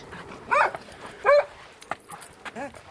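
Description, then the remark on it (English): A dog named Freckles gives a few excited, high-pitched barks and yips, spaced irregularly across a few seconds, with a quieter yelp at the end. “The delighted barks of Freckles the dog.”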